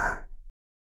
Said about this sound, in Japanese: 私が作った小豆の音だよ。